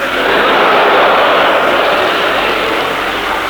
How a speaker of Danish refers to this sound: Det må være en færge.